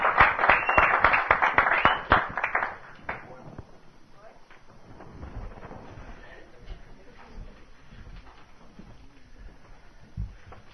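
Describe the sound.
A loud, dense round of applause from a group of people lasts about three seconds, then quickly fades into quieter murmuring and low voices.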